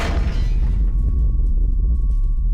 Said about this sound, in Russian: Я врезал по трубе.